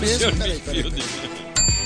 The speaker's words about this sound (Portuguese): Agora vocês estão vendo que a campainha não é um botão no computador, é realmente uma campainha. É verdade, gente. É uma sineta que fica aqui na mesa e ela é tocada cada vez que alguém é muito idiota.